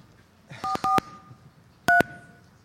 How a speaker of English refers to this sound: All right, let's do it. I'll do my part. I'll dial the phone.